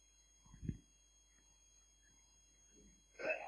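A single sneeze, fairly faint, comes near the end after a short muffled burst and a quiet stretch. No one speaks.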